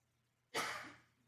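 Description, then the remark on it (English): A single sharp sneeze bursts out suddenly after near silence, a loud, breathy explosion that trails off quickly, unaccompanied by any talking. “Bless you.”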